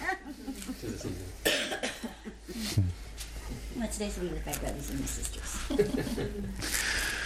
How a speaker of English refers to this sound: we're going to have a symphony of coughing here today.